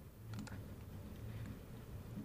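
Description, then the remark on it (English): Faint, soft clicks of typing on a computer keyboard, a short burst of a few keystrokes early on, then a low steady background hum with no voices. “All right, I guess they can hear us typing.”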